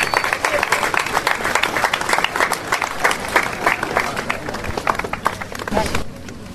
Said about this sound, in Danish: Så giv jer selv en hånd. Tusind tak.